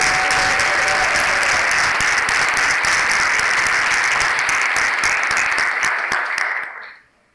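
An audience breaks into sustained applause, dense and loud with many hands clapping at once, holding steady for about six seconds before quickly fading out.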